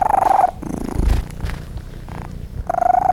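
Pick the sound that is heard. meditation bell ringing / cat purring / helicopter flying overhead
cat purring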